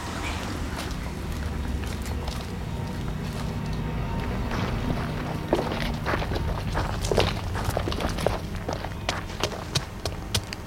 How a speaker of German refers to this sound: ist jemand hinter der Tür. Ich habe deutlich Schritte gehört.